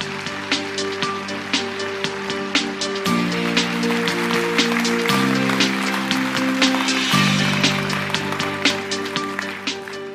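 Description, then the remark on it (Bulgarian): Steady, dense clapping from a crowd applauding GERB deputy chairman Tsvetan Tsvetanov as he is introduced runs for the full ten seconds, a continuous crackle of many hands, with sustained music chords shifting underneath every couple of seconds. “Дами и господа, аплодисменти за заместник-председателя на ГЕРБ и председател на Националния предизборен щаб, господин Цветан Цветанов.”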